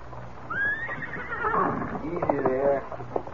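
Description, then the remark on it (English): A horse neighs as two men come from a cafe to get their horses: a shrill rising call followed by a longer, wavering whinny that trails off, set against a low, steady background rumble. “Me kneel down to take stone from Scout's hoof, and two men come from cafe to get horses.”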